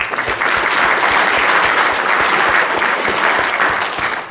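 An audience applauds steadily for about four seconds, a dense, even wash of clapping that stays loud throughout and tapers slightly at the end, with no voices over it.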